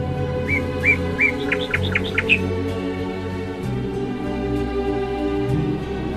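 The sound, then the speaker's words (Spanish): Small birds chirp in a quick burst of about eight bright, high tweets, rising in pitch toward the end, over a steady low background rumble, then fall silent. “Pues que los pajaritos se las habían comido todas.”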